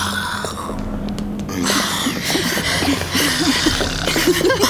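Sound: voice imitating loud snoring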